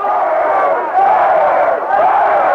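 Thousands of demonstrators in San Francisco shout "murderer" in unison, a loud, dense roar that swells and dips in a chant roughly once a second. They are protesting a jury's voluntary manslaughter verdict for former city supervisor Dan White.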